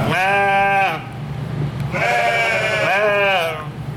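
Sheep and lambs, the lambs born in November, bleat inside a barn where they are kept away from the cold, in loud, wavering, nasal calls, three long overlapping bleats with a short gap between the first and the rest, over a low steady background hum.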